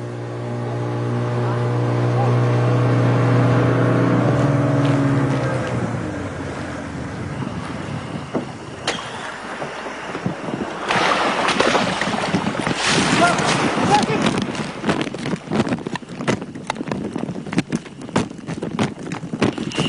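The engine of an approaching BRA motorboat drones with a steady, buzzing hum at sea near Bougainville island, then gives way to gusty wind rumble and sharp water splashes and slaps against the hull, fairly loud throughout.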